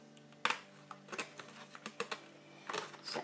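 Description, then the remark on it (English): Scissors snip through a chicken fillet, cutting it into small pieces, making a run of crisp, irregular clicks and snaps, with no one speaking. “I use a pair of scissors to do that.”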